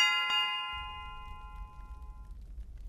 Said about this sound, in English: A moment later, they were both standing in the butcher shop, ringing the service bell.